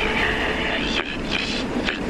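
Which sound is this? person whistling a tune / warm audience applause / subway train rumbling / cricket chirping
subway train rumbling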